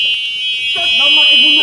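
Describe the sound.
A horn blares in one continuous, steady high-pitched tone for the whole clip, loud and unbroken, while a person starts talking underneath it partway through.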